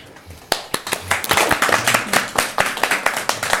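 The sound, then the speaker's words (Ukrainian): An audience breaks into applause for a speaker, starting with a few scattered claps and quickly swelling into dense, steady clapping that continues to the end. “Ірині завжди аплодують.”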